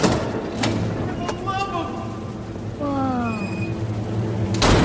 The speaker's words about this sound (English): Timmy's brows raise and he pushes through the door.